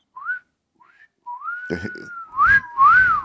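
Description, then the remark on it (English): Catcall wolf whistles from some gay men: two short, faint rising chirps, then a long steady whistle under a burst of noise, ending in two louder rising-and-falling whistles. “some gays catcalling.”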